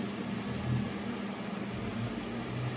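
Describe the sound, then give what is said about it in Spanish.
Steady whirring hum of an audio amplifier's cooling fans running continuously after the audio equipment is switched on, a broad airy hiss over a low mechanical drone, even throughout with no voices. “Se escucha el sonido de los ventiladores.”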